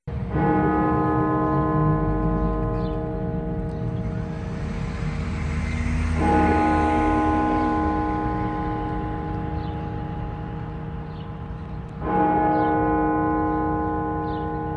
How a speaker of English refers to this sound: The bells of the Washington National Cathedral were rung 1,000 times in memory of the 1 million Americans who have died from COVID-19.